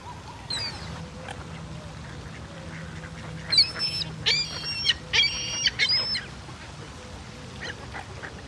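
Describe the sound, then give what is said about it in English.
Seagulls call out in a burst of harsh, squawking cries, four or five overlapping calls in quick succession over a low, steady background rumble, with no one speaking. “Look at the seagulls in there.”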